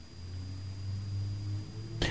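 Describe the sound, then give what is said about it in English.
A low, steady engine rumble of a truck driving by a house near the road, muffled, swelling slightly in the middle before a brief sharp noise at the end. “I can hear a truck going by your house right now,”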